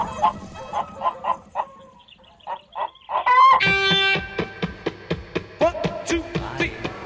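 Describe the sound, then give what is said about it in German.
A chicken clucks in quick, repeated bursts at the end of a song on a rock album, then a bright sustained electric guitar note opening the next song rings in halfway through, overlapping the continuing clucks as one sound blends into the other. “Aber deshalb fehlt auch einer der witzigsten Klangtricks des ganzen Albums, das sich Überschneiden eines gackernden Huhns und dem ersten Gitarrenton, mit dem der nächste Song beginnt, was hier unbedingt nachgeliefert werden muss.”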